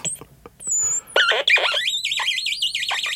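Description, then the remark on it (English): An electronic crackle box, played by touching the pads on its front, squeals out high, bright notes that slide and wobble with a quick vibrato, starting in short bursts and settling into a warbling, siren-like tone. “One nice thing about the crackle box is it's very hard to repeat something that you do once.”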